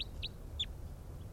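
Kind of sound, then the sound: bird, bird calling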